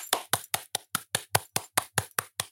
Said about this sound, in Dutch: Ik wilde klappen, maar mijn handen zijn nog steeds vet. Dus dat klinkt raar.